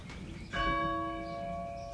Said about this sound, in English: Here's the rope for the bell in the church, and Ruth and I's little children jump up and grab the knots on the rope and pull the bell down after church.